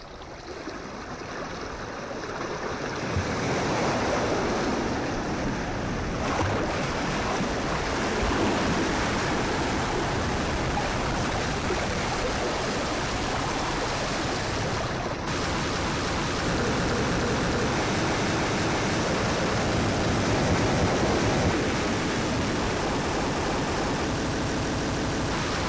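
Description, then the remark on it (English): Industrial hardcore noise music: a dense, unbroken wall of harsh static-like noise that swells up over the first few seconds, then roars on at a steady, loud level with no voices. “We're doing industrial hardcore. This is going to be straight up noise.”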